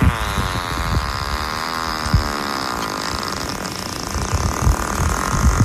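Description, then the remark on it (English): A baboon calls in a low, droning series of throaty grunts whose pitch wavers and sweeps, with rough pulsing thumps underneath, fading into a rumbling murmur. “Which animal is it? That was the baboon.”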